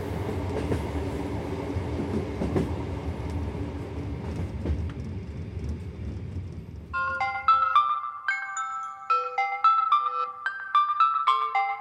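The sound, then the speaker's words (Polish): Rumbling train noise in a train compartment fills the first seven seconds, then a loud, bright electronic mobile phone ringtone takes over, repeating a quick melodic pattern of high beeping notes with no voices. “3 raz dzwonię, dopiero teraz odbierasz.”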